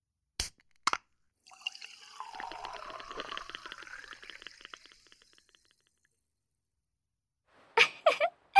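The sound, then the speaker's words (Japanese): A couple of sharp clicks, then a steady pour of beer into a glass for about four seconds, the gurgle rising in pitch as it fills. A few clinks and taps follow after a pause. “まずはビールをどうぞ。”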